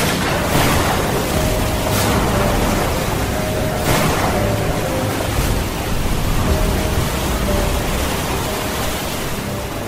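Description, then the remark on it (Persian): A continuous loud roar of rough water in a violent storm at sea, with broad surges of crashing waves at intervals battering Spanish ships, dense, with no voices. “طوفان کشتی های اسپانیایی را در هم کوبید و سربازانه در دریا غرق کرد.”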